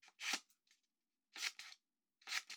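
scissors cutting paper

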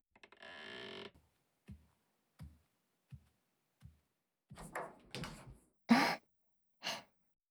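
door opening and closing

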